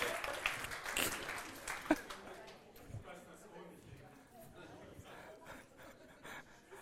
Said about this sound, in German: Also, ein Applaus, du bist brutal kreativ.